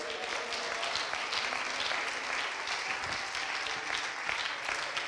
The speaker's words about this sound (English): Somebody clap their hands.